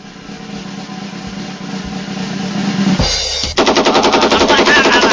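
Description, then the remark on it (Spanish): A rapid, sustained burst of machine gun fire rattles loudly, its shots coming in a fast even rhythm after a few seconds of steady droning rumble and a brief sharp transition. “Cada una de las balas te las mereces.”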